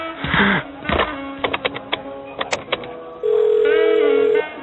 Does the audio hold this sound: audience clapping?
no